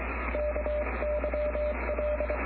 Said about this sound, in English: And if you see Jim Ruffley at Columbus Acres in Fort Smith, you can ask him for a Morse code demonstration. This would be, your name is Kyle, K-Y-L-E.